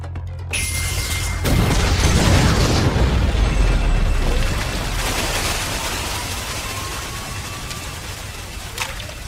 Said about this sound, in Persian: اجازه یه شلیک میخوام. اجازه داده شد.